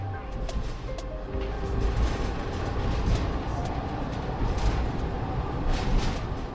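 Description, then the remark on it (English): A single-car local train with velvety green and yellow seats rolls steadily along the rails into the countryside on the island of Shikoku in southern Japan, heard from inside with a constant low rumble and occasional rattles and clicks from the wheels and carriage. “And the local train to get there is just one car long, with velvety green and yellow seats.”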